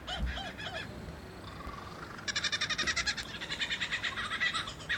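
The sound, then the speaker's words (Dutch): A male bird from a BBC David Attenborough documentary mimicking camera shutters, car alarms and chainsaws: a few short, bright harmonic calls, then a fast, steady stream of clicking bursts like a camera shutter firing repeatedly, moderately loud with no talking. “Hij is ook een ster in het nadoen van fotocamera's, autoalarmen en kettingzagen.”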